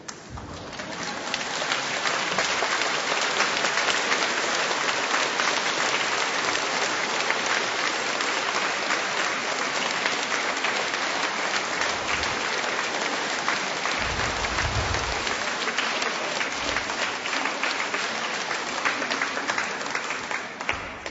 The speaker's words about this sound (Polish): A czemu tak oklaskujecie? Jakbyście się domyślali, o co mi chodzi?